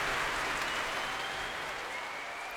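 A concert audience at a Prom in the Royal Albert Hall stamps and cheers, a dense, continuous wash of crowd noise that holds steady throughout, heard from within the hall with no voices talking over it.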